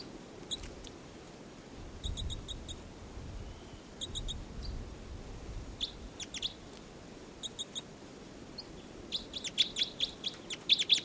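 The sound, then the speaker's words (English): A caged bird, number 306, calls in repeated short, high-pitched chirps, arriving in quick bursts of three or four notes, with a faster flurry of sharp tweets toward the end over a low background rumble. “And 306 is calling,”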